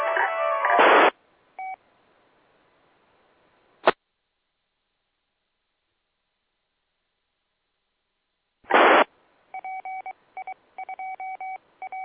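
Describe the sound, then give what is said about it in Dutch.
Telephone tones as a phone call is taken: a loud burst of noise, a short beep, then a click, followed later by another burst and a rapid series of paired DTMF keypad tones in quick succession. “Ik kreeg net even een telefoontje”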